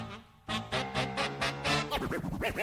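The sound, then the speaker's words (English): A DJ scratching a record over a rhythmic music track, with a run of sharp, evenly spaced bursts followed by quick back-and-forth pitch swoops as the vinyl is rubbed. “He's counting with scratching.”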